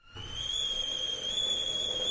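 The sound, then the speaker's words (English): A kettle whistles at a steady, shrill high pitch, one unbroken tone holding level for about two seconds over a soft rushing hiss of boiling water. “Oh, the kettle's boiled.”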